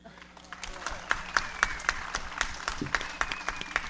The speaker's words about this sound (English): I'd like to call for a round of applause for the sound man.